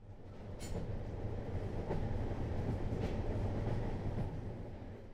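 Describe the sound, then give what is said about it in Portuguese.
A train travelling to Lisbon rumbles steadily along the rails, with a low continuous roar and periodic clicks and clacks from the wheels passing over track joints. “O Ricardo e a Marina vão de comboio para Lisboa.”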